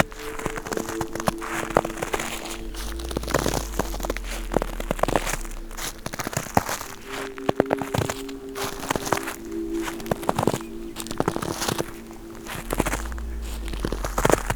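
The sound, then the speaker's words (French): Footsteps crunch steadily through a carpet of dry dead leaves, with crackling and rustling at each step and a low steady hum underneath; no one speaks. “Sur un tapis de feuilles mortes.”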